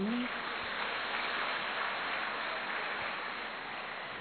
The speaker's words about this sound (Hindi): अच्छा सारे, अरे वाह वेरी गुड, अपने लिए ताली बजाओ।